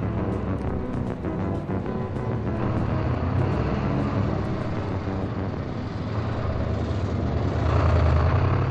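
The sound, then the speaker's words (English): Dense street traffic rumbles steadily, with engines droning and occasional car horns sounding over the mix; sharp clicks and knocks punctuate the first few seconds and the roar swells near the end. No one speaks. “Some kids walk, or run with other kids, and make their own noise as they go, try to hear each other above the traffic and horns.”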